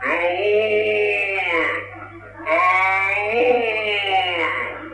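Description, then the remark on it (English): A man's voice imitates a red stag's mating call: two long, wavering, bleating bellows, each about two seconds, loud and rich in overtones, separated by a short pause. “You called a deer?”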